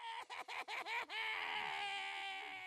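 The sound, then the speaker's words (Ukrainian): A baby cries: several quick, choppy sobs followed by one long, loud, high-pitched wail that holds steady to the end. No one speaks. “Тихо, не плач, не плач, не треба плакати.”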